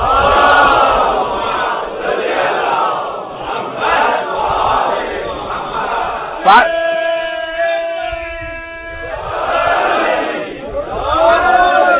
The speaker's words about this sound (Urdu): جو لوگ انٹرنیٹ پہ مجلسیں سن رہے ہیں ان کو بتا دوں کہ صلوات کی اتنی ٹھنڈی آواز سے نہ سمجھے کہ مجمع نہیں ہے، مجمع تو بہت زیادہ، لیکن پتا نہیں کیوں بڑا ٹھٹرا ہوا مجمع.